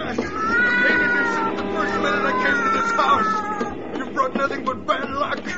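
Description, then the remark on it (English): A cat, Lady Susie, yowls loudly and continuously, its wavering cries rising and falling as it writhes and scratches while a man tries to push it into a cellar furnace, with rough scuffling noise underneath for several seconds. “drop that cat this instant”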